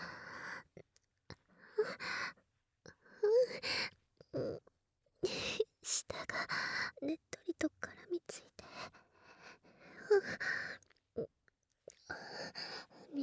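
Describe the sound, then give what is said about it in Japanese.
Wet licking sounds on an ear, an irregular run of slurping smacks and sticky clicks mixed with soft breathy bursts, with brief pauses between clusters. “で、いやらしい音が、チュルチュルルって響いていますわ。”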